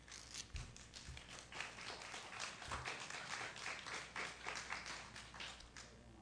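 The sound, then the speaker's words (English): An audience claps steadily for several seconds, a dense crackle of many hands with no voices over it, fairly soft throughout and fading a little toward the end. “Applause is fine.”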